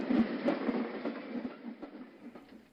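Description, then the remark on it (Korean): A steam train pulls away in a snowstorm, its white steam and smoke mixing with the snow, with a steady rumble and an irregular clatter of wheels over the rails, the sound gradually thinning and fading as it leaves. “기차가 떠나고 있었다. 기차에서 나오는 하얀 증기와 연기가 눈보라와 뒤섞이는 가운데 열차는 시야에서 사라졌다.”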